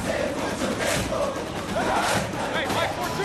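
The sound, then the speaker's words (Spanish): A dense, steady roar from a large stadium crowd cheering, with shouted voices blending into a continuous wash and a few high whistles rising near the end. “Hay diferentes maneras de ir a un estadio.”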